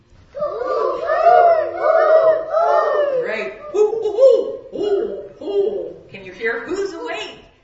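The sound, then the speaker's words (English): A group of first graders imitate great horned owl hoots during a Four Winds science activity, their high voices overlapping in a loud, continuous chorus of wavering calls, with a brief dip before a final burst. “Mimicking owls is a hoot”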